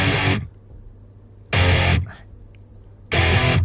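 A slow, heavily distorted rock song plays on the radio, with three loud, smeared chord blasts landing roughly every one and a half seconds and a low droning hum between them.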